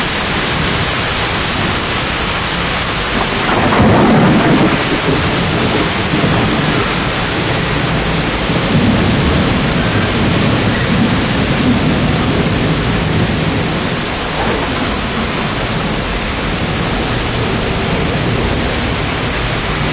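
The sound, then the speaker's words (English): Steady, heavy rain hisses throughout while deep thunder rumbles underneath, swelling into a louder roll early on and another crack later; no voices, just the storm's constant wash. “Nothing can stop us now except rain.”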